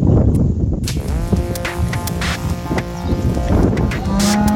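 A Latvian cow moos loudly while sniffing a phone, a long harmonic lowing call lasting several seconds, with breathy snuffling and wind-like rustle underneath.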